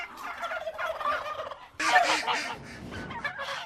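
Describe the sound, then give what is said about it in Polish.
A small Indian Runner duck, a snail-eating breed kept in a garden, calls repeatedly in quick, chattering bursts, fairly loud, with a louder flurry of calls partway through and no talking. “Potrafią znieść koło 100 jajek rocznie, więc to jest bardzo mała kaczka, a tak wydajna.”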